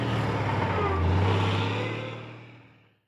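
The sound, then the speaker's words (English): A heavy lorry carrying flour to shops rumbles past with a deep, steady engine drone that swells to a peak and then fades away over a few seconds. “Then a lorry takes the flour to shops.”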